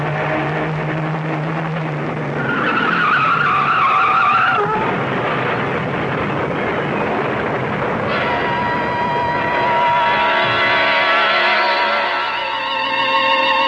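Car tires screech in a long, loud skid as the car swerves off the road to avoid a truck, the squeal rising and wavering in pitch before a second drawn-out screech follows, with no voices.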